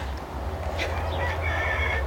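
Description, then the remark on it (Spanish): A rooster, a pet named Goku, crows, its drawn-out call rising faintly over a steady low outdoor rumble, with no one speaking. “Uy, oigo al gallo.”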